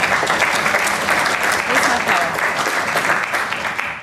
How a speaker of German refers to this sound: Ja, dann denke ich, gibt es auch einen sehr, sehr, sehr großen Applaus für das Videoteam.